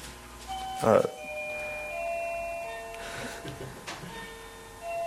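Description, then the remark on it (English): A new bell is struck once, its bright clang giving way to steady ringing tones that hang in the air for several seconds, with a few softer taps sounding later. “That's our new bell.”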